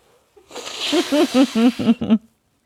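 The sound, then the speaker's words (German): A long, hissy nose blow by a person who is ill, honking in a quick series of about six pulsing bursts over roughly two seconds, fairly loud and with no talking. “Schnittpause, ich muss Nase putzen.”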